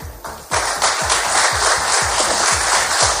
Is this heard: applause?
yes